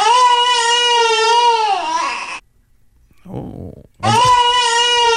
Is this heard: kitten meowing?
no